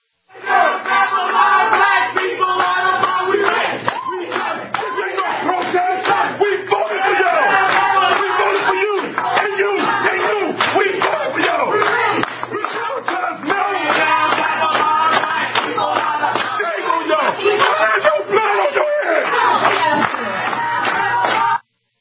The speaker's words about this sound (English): it's a mob crowd, you know, hooting and hollering and shouting them down